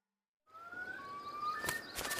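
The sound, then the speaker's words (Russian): Thin, high whistling chirps of small birds called shtilli glide and waver, joined near the end by a couple of sharp fluttering bursts like small wings flapping. No one speaks. “В зоне его проведения водятся пташки под названием штилли.”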